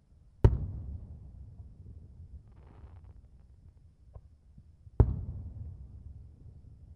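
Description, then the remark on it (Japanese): Two loud fireworks bursts about four and a half seconds apart, each a sharp crack followed by a deep rumbling tail that slowly fades. No one speaks. “すげえ音。花火っていうのか。”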